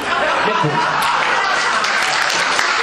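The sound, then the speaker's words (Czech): An audience at an evening stage performance applauds steadily for about three seconds, a dense wash of many hands clapping at once, with a few chuckles and murmuring voices mixed into the crowd noise. “Potlesk je nám největší odměn.”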